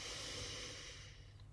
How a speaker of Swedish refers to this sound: Ta nu ett djupt andetag in genom näsan där du fyller mage och bröstkorg.